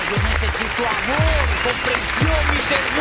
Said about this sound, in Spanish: Ay, Dios mío, gracias. Aplaude.